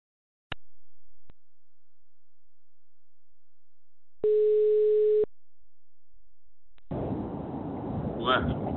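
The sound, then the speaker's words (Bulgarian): A couple of sharp clicks, then a single steady telephone line tone buzzes for about a second before cutting off, during a call to a minister's office, followed by a burst of rough, muffled noise. “А не ме тупи една и пол минута ти чекам на телефонот кабинетот на министрот Јана Кијески.”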